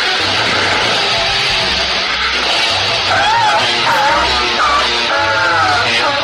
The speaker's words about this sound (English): I don't think the vacuum liked that. The guy, yeah, he totally blows his wad in the clear tube, so you know you can see it, and then the vacuum starts making a horrible noise.